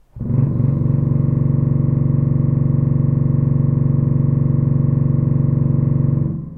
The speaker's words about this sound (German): Jetzt interessiert mich noch, wie das tiefste C hier klingt, direkt neben dem Ausgang der Pfeife. Heraus kommt ein Ton, mit dem ich nicht gerechnet hätte.